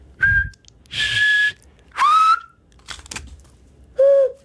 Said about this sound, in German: Und auf alle verschiedene möglichen, auf wie viele Arten kannst du pfeifen? Was, auf wie viele Arten?